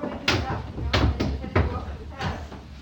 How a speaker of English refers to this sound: All right, mischief, I'll close the door.